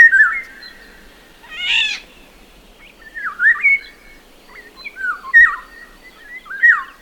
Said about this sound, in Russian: Возьмем мелодию посложнее. Иволга.